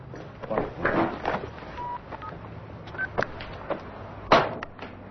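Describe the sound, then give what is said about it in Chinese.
Several short electronic keypad beeps from a mobile phone being switched off during a meeting, spaced irregularly among soft clicks and handling rustles, fairly quiet, with no one talking. “我把手机关了。你们也都关了。”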